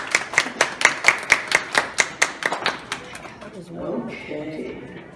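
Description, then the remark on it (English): A quick, steady run of about a dozen sharp hand claps for roughly three seconds, evenly spaced and crisp, as the audience gives themselves a round of applause, then the clapping stops and a voice begins talking. “So, give yourselves a round of applause. Clap, clap, clap, clap.”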